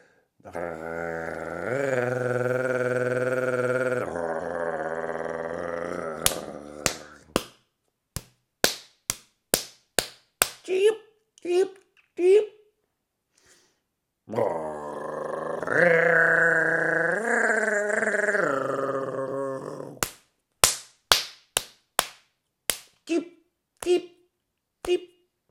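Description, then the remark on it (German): Two long, steady buzzing drones, each followed by a quick series of sharp, dry wing claps from a European nightjar in courtship display, a relatively small bird with narrow wings, about a dozen snaps at a time, loud and irregularly spaced. “Und das macht auch der Ziegenmelker. Und das ist mit seinen schmalen Flügeln für einen relativ kleinen Vogel erstaunlich laut.”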